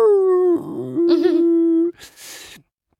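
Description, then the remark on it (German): A person howls like a dog in pain during a facial needle-roller treatment, with needles rolled over the forehead, cheeks and chin: one long, steady, mid-pitched wail lasting about two seconds, wavering slightly, then trailing off into a breathy, whimpering exhale. “Also es ist nichts für, ich bin empfindlich und ich war schon so ein bisschen, ich hab fast wie ein Hund gejault.”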